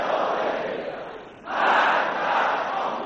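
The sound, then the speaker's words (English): A large crowd shouts together in a dense, roaring wave, dipping briefly and then surging back louder, chanting anti-Western slogans in unison in response to Khamenei's comments: cries of down with the U.S., down with Britain and down with Israel. “The crowd responded to Khamenei's comments with cries of down with the U.S., down with Britain, and down with Israel.”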